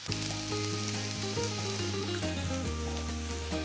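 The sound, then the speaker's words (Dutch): Gnocchi sizzle steadily in a hot pan as they grow ever drier, a continuous crackling hiss with low rumbling tones underneath, holding an even loudness throughout with no voices. “En terwijl de gnocchi inderdaad alsmaar droger wordt. Ja, hoort, hè?”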